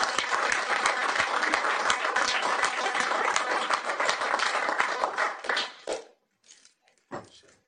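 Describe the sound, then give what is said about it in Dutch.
An audience breaks into sustained applause, dense overlapping clapping for about six seconds, then it quickly dies away to a few scattered final claps. “Dus nog een applaus.”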